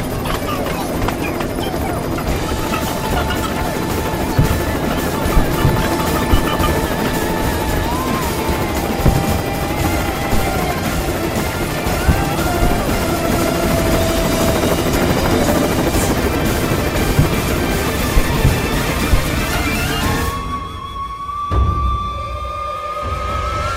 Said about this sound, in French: viens vite, l'hélico est ici. On est paré pour l'extraction.